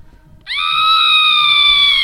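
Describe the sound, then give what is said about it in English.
A loud, shrill scream sound effect, used for the TV show Scream Queens, bursts in after a brief pause and holds at a steady high pitch until the end, with no talking alongside it. “I don't have to scream. I'm going to use that sound effect every time we say Scream Queens.”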